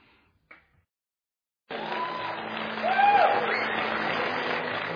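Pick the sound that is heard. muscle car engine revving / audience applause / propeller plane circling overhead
audience applause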